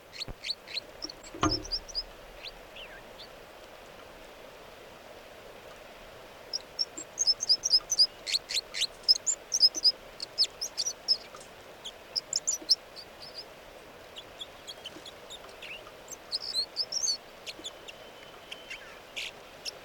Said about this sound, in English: And these are the vocalizations of song of bird 305.